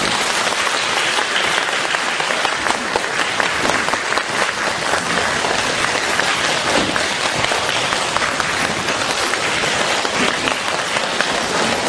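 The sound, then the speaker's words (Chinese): Sustained, dense applause from a large audience welcoming Lu Junhong to give a Buddhist talk, steady and loud with no breaks, a continuous wash of many hands clapping. “现在尊敬的卢台长将为我们慈悲开示，让我们用最热烈的掌声恭请我们尊敬的卢军宏台长。”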